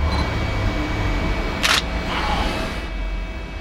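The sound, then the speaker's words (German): A single crisp camera shutter click cuts through a steady low hum, followed by a softer, brief mechanical rustle as the mechanism resets, as photos are taken at the scene of a safe burglary. No one speaks. “Die Fotos sind gemacht”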